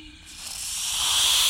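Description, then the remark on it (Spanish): A drawn-out snake hiss, airy and sibilant, swelling steadily louder over a second and a half and heard on its own with no talking. “¡una serpiente! Silbo como la serpiente.”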